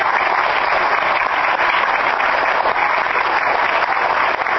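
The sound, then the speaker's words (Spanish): Sustained applause from an audience for a photography and computing assistant who volunteered, a dense, even wash of many hands clapping at steady loudness for several seconds with no voices on top. “Un aplauso para Gonzalo.”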